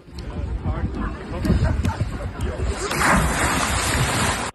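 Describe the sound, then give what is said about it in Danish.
Wind and rolling sea noise give way to a heavy splash as a diver doing a brudspring dive breaks the water surface, followed by a loud rush of churning water that lasts over a second before cutting off. “Jamen, det må jo så være brudspring.”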